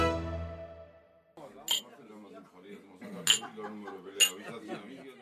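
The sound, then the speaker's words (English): Cutlery and dishes clink at a large dinner table laden with plates of lamb stew, aubergine dishes, cheese-filled bread and bottles of chacha, three bright metallic chinks spaced a second or so apart, over a steady murmur of relatives and guests talking, after a fading musical tone. “relatives, and other guests crowd around a large table. It's laden with plates of lamb stew, dishes with aubergine, cheese-filled bread called chachapuri, and bottles of chacha, a locally brewed spirit.”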